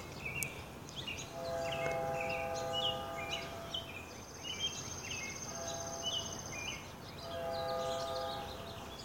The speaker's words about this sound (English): Train's announcing its run into Boston.